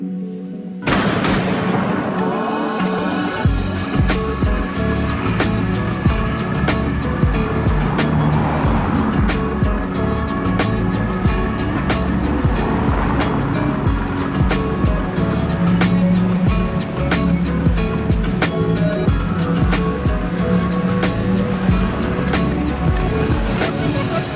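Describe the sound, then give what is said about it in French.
Busy street traffic on boulevard Voltaire in Paris, in front of the Bataclan, rumbles steadily, with cars and bicycles passing and overtaking continuously and occasional sharp knocks and clatters cutting through the dense, unbroken road noise. “Sur le boulevard Voltaire, Les voitures, les vélos roulent, doublent comme partout dans Paris”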